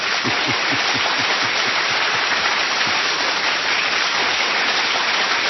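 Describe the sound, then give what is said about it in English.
A steady, dense crowd applause sound effect, a continuous hiss of many hands clapping at an even loudness for several seconds, with no voices over it. “We're supposed to give her a hand, but it's over here on this one, and oh boy, where is my applause? Here we go. It takes so long to find it.”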